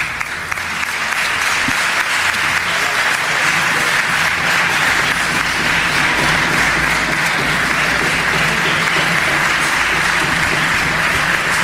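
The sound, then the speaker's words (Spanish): Sustained applause in parliament from the groups supporting the government, after the vote approving the Canary Islands budget, a dense, steady wash of many hands clapping at an even loudness throughout, with no voices breaking through. “Los aplausos son de los grupos que apoyan al gobierno.”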